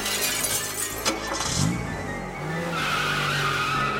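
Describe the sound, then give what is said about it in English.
A car being parked: a steady engine rumble with a short tire squeal and a sharp knock partway through, then the motor settles into a low idle. No one speaks. “You park your car, and your worst nightmare happens.”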